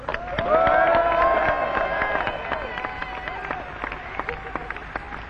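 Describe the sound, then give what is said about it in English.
A large live concert audience in Newcastle applauds and cheers, with dense clapping and rising whoops and whistles that swell early and then gradually thin out, sounding full. “Before we play this next one, I'd just like to thank you for being a really good crowd tonight.”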